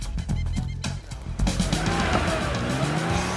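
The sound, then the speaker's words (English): A high-end silver convertible sports car speeds into a parking lot and pulls to a stop in front of an elegant white building, with a loud engine roar, its revs climbing steadily while tires squeal and skid across pavement. “A high-end silver convertible sports car speeds into the parking lot.”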